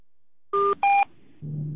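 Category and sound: signal or alarm, telephone keypad dialing tones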